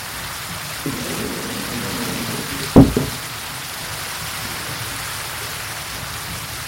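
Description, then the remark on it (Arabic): Steady rushing, splashing water flows into a heavy waterwheel at a mill, with one sharp, heavy splash or thud near the middle as the water strikes the water openings, and a faint low rumble underneath; no voices. “عندما يتدفق الماء إلى فتحات المياه فتخلف صوت ارتطام، ثم تتدفق إلى الساقية الثقيلة لتحملها مصدرة صوتها المألوف”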